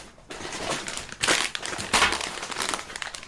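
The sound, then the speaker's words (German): Crinkly plastic chip bags rustle and crackle as they are put away and set down, with bursts of loud crumpling around the middle and a steady crinkle throughout; no one speaks. “Ich liebe Chips. Die lege ich dahinter, Die weil die werden auch gar nicht kommen weggeräumt.”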